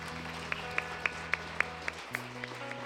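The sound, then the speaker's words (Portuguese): A church audience claps for Jesus during a service in a steady, even rhythm, roughly four sharp claps per second, over sustained organ-like chords that shift to a lower note partway through. “Aplauda Jesus.”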